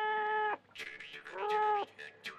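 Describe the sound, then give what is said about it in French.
A thin black cat meows twice, two long, drawn-out calls that slide downward at the end, loud, with brief breathy hissing sounds in between. “mais le chat était là, maigre, noir, effrayant.”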